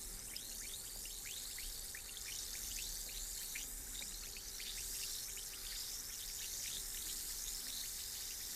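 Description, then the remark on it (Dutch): Effervescent tablets fizz in a glass with a steady, bright hiss full of tiny crackling pops that continue evenly for several seconds, with no voices. “Maar als ik de tabletten in mijn glas laat bruisen, duurt het meestal langer dan verwacht.”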